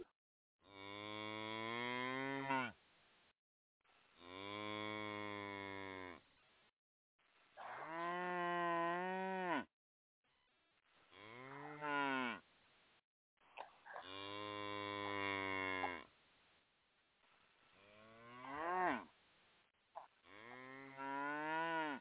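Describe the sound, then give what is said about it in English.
About seven loud, drawn-out moos from upset cows, each lasting a couple of seconds with brief pauses between, some rising and falling in pitch, with no talking. “Y'all out there making my cows upset.”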